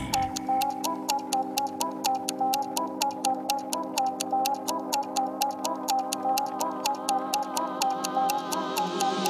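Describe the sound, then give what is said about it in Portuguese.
Steady, crisp clock ticks repeat at an even, brisk pace, about four per second, throughout, layered over a sustained musical tone with a shifting melody underneath. “Tic-tac no relógio bate, já bateu?”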